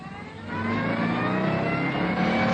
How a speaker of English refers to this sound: We got about 20 yards down the deserted village street when we saw the car outside the pub. A fast sports car. Keys in the ignition.